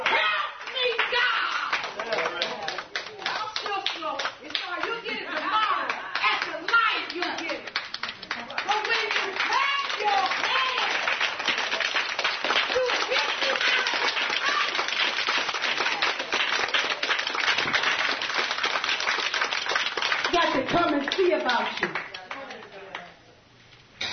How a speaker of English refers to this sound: sometimes you don't have the words. So you know what I do? I just do this right here. I just clap my hands. God, come and see about me right now. I don't have the words, but I'm clapping my hands.